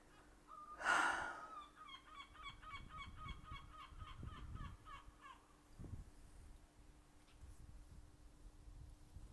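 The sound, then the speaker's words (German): A loud, harsh honk bursts out near the start, followed by a rapid stuttering series of goose-like calls that fade over a few seconds, with faint outdoor rumble underneath and no talking. “Siehst du den Vogel da?”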